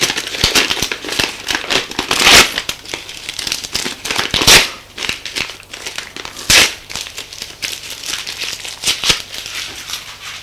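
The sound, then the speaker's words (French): Identity cards being torn and ripped into small pieces, a steady run of crinkly tearing with several sharper rips standing out, continuing for about ten seconds with no voices. “Puis Marc déchira en petits morceaux leur carte d'identité.”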